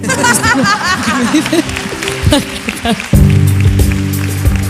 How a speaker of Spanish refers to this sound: Pues lo aplaudimos, claro que sí.